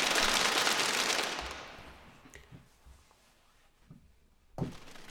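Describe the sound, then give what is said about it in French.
A burst of dense group applause, loud at first and fading away within a couple of seconds, followed by a few scattered isolated claps and one last sharper clap. “Allez, un petit peu d'applaudissements.”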